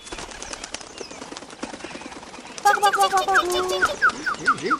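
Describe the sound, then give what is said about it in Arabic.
Soft, rapid fluttering of a bulbul's wings as it flies away fills the first half, then a burst of bright, repeated chirps and whistled calls rings out loud through the end. “في تلك الأثناء تجرأ بلبل ودخل عش العصفور وأخذ طعامه، ثم طار بعيدا بعيدا بعيدا جدا جدا عن الأنظار.”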